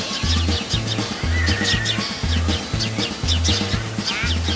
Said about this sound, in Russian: В кустах громко чирикали воробьи. Веселыми компаниями они то и дело срывались с веток, перелетая с дерева на дерево.